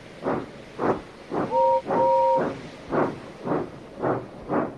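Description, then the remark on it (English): A steam locomotive chuffs in steady hissing bursts, about eight in a row, broken midway by two short two-note whistle blasts. No one speaks. “You watch me, little Edward, as I rush through with the express.”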